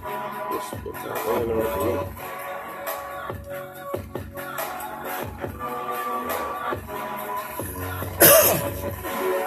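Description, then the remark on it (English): A single sharp cough bursts out near the end, cutting loudly over a steady music track with a beat that plays throughout. “That cough I got that keeps interrupting the fucking the flows.”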